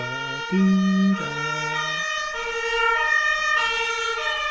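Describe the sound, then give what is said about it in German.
A fire engine siren wails loudly, its stepped two-tone pattern shifting pitch as the vehicle passes by, with no voices present. “Nein, nur die Feuerwehr natürlich.”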